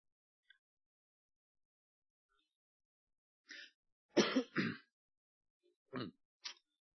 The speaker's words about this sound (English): Excuse me. I'm going to cough, and I'm trying not to do this.